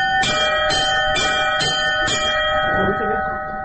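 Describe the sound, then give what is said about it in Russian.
A church bell is struck five times by a person learning to ring bells, at an even, steady pace, each ring sounding bright with a lingering metallic hum, while a person speaks briefly in the background. “и люди сами уже пробуют звонить во все колокола.”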